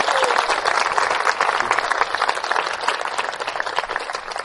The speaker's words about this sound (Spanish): Un aplauso para Jesús, un aplauso para Jesús.